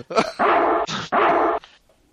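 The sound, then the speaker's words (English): A dog barks in a quick, agitated burst as someone tries to put pants on it: a short yip, then two drawn-out, strained barks separated by a brief harsh huff, with no talking. “That was Jason trying to put pants on the dog.”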